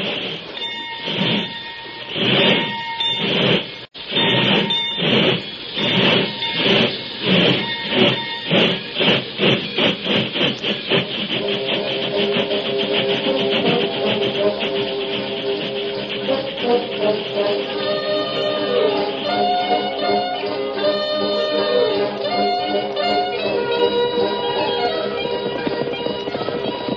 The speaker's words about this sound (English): And if the train should happen to pass us on this level stretch, we'll pass it again as soon as the engine hits the grade.